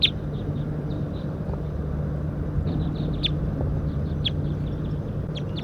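A wild bird up in a pine tree gives repeated short, high tooping calls in loose bursts, some rising sharply, over a steady low rumble like traffic. No one speaks.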